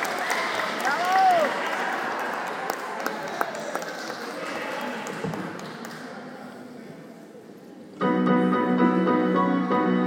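An audience claps steadily, with a short whistle near the start. The applause gradually thins out before music starts up abruptly at the end.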